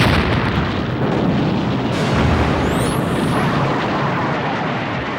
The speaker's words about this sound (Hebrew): בשישה באוקטובר 1973 בשעה 2 אחר הצהריים, פתחו הסורים בהרשה ארטילרית כבדה ובהפצצת מטוסים לאורך כל קו הגבול.